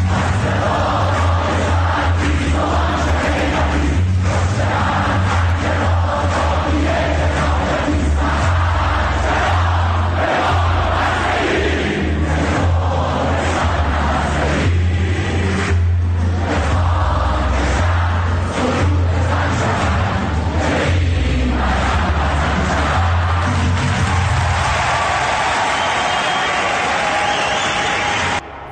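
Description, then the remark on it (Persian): A large crowd at Sharif University chants slogans in unison, loud and continuous for almost half a minute, with rhythmic surges of shouting and a dense roar of voices throughout, no single speaker standing out. “شنیدید تو شریف چی میخوندن؟”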